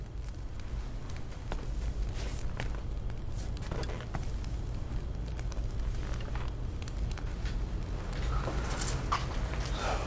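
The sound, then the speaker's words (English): A fire crackles in a fireplace, with irregular sharp pops and snaps scattered over a steady low rumble, moderately loud throughout. “You like the fire, John?”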